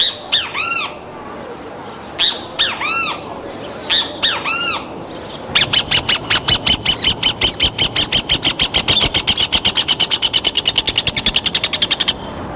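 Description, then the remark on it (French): Several birds of different species calling in the morning among trees in Brasilia, Brazil: a few loud, harsh squawks in short bursts, then a fast, steady run of sharp chattering notes that continues for several seconds. No one speaks. “Vous voyez les oiseaux par la fenêtre, c'est extraordinaire. On va les entendre, les oiseaux, parce qu'en plus, c'est assez extraordinaire, les variétés.”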